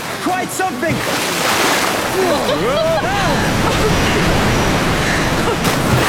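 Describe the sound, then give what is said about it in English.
Loud, steady rushing water roars throughout as canoes shoot forward, plunge through churning river rapids and hit the water again, with excited voices calling out faintly beneath the torrent. “The canoes shoot forward. For a dizzy moment, we are in midair. Then we hit the water again, and we are free.”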